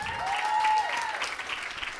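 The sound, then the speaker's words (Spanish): An audience applauds Rita Pauls of Buenos Aires with steady, dense clapping that holds at an even level throughout, while a thin whistle-like tone rises and sustains briefly early on. “Un aplauso para Rita.”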